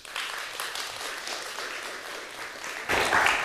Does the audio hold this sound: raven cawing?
no